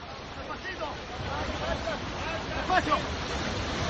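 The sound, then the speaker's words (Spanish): Continuous roaring surf and wind wash through the whole recording, with scattered voices shouting over the churning water and a louder surge near the end, during a rescue attempt for 35 people who fell into the sea near the port of Órzola, Lanzarote, after their boat hit rocks. “Este es el intento de rescate de las 35 personas que cayeron al agua cuando casi estaban llegando al puerto de Órzola, en Lanzarote.”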